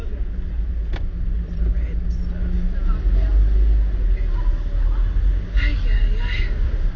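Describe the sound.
Steady low rumble of a car driving on the road, continuous and fairly loud throughout, with a brief click early on and muffled voices faintly in the background.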